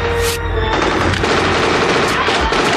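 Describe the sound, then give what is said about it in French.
Loud, sustained gunfire from two men shooting at each other fills the whole stretch: dense rapid bursts of shots crackling over a deep rumbling low end, with a few sharper cracks standing out. “Puis là, les deux gars se tirent dessus.”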